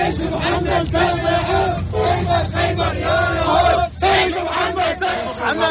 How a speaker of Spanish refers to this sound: Estos eran iraquíes eufóricos gritando al lado de los vehículos calcinados del CNI, mostrando pañuelos ensangrentados.